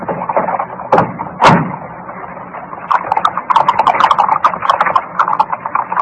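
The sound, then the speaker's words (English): Horse hooves clip-clop in a steady, brisk rhythm as a horse-drawn four-wheeler cab rolls along, preceded by two sharp thumps like a carriage door shutting. “We'll take a four-wheeler. Cab!”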